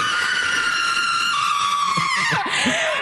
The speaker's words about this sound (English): That was quite the scream-a-thon. And she managed to get enough breath to throw in all the names of people she hates. They hate, I should say they. Can we just hear the screams again?